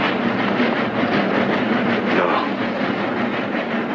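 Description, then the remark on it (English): A train departs a station, a steady, loud wash of rolling noise with faint rattling of the cars, continuous throughout with no voices. “And he looks up at the departing train as it leaves the station.”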